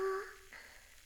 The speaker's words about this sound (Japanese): この泡本来のシュワシュワーって音と炭酸のパチパチーって弾ける音がすっごく好きなんだ。